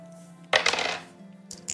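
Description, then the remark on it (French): A die, rolled to get under 70, clatters across a hard surface in a quick burst of rattling clicks lasting about half a second, followed by a couple of small taps, over a low steady hum. “Vas-y, lance un dé et fais moins de 70.”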